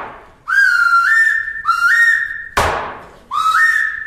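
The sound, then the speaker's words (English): A shrill whistle is blown as the last signal in three long blasts, each one jumping up in pitch partway through, with a sharp thud landing between the second and third blasts. “That's the last signal!”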